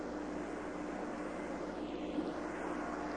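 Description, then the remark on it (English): Helicopter number 66 hovers over the ocean just upwind of a space capsule command module, lowering a Billy Pugh rescue net toward the water, its rotor and engine making a steady, even drone that holds at the same moderate loudness throughout, with no voices. “Number 66 again is over the command module, just a little bit upwind now, lowering the Billy Pugh net once more.”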